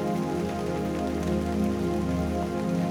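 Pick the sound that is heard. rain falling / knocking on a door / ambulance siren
rain falling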